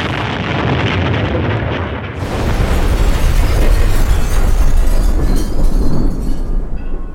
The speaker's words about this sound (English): It's the 23rd of October, 1993. Two men enter Frizzell's fish shop on the Shankill Road in Belfast. It's shortly after 1 p.m. on a Saturday. People are busy inside and outside doing their shopping. Then suddenly, an explosion.